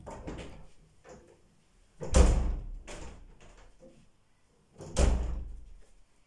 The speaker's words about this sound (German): Sie hatten fürchterliche Angst, als plötzlich die Tür auf und zu ging.